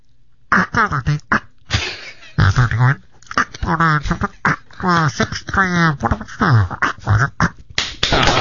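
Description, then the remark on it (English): A voice mimics a crackly, garbled police car radio transmission from a car 2 miles from the station, with choppy bursts of muffled, unintelligible syllables and a steady hiss, loud and continuous for several seconds. “But it's amazing to me, talk to people on the space shuttle, and it's crystal clear, and so is the picture, yet still to this day, a police car 2 miles from the station sounds like this.”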